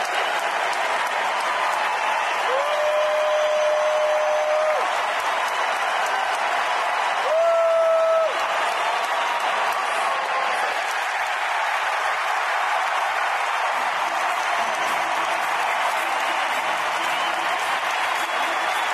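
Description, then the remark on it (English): A stadium crowd cheers and applauds as Framber Valdez makes his exit, in a loud, unbroken roar that lasts the whole stretch, with two steady, long-held tonal blasts rising above the din partway through. “Here is what it sounded like in the crowd when Framber Valdez made his exit.”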